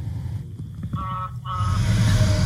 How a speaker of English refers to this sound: Semi drove by.